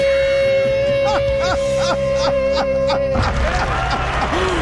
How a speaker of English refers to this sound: People clapping, actually.